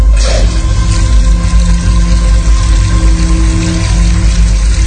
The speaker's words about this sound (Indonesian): Setelah itu, aku mencuci tangan di wastafel.